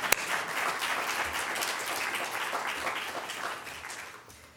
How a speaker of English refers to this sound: So I think we should all give him an applause for coming anyway.